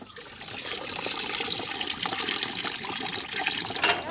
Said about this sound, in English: This is a magnificent machine. It's like a waterfall, like a cascade. You've got a huge pool at the top, probably about, I don't know, a metre by a metre, and then it cascades down from bucket to bucket, like a waterfall.